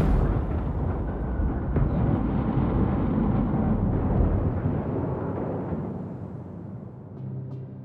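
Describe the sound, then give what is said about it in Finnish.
A car bomb explodes under Prime Minister Blanco's car on Claudio Coello street in the morning: a loud, deep roaring rumble that stays heavy for several seconds, then slowly thins and fades toward the end, with no voices. “Kunnes räjähtää.”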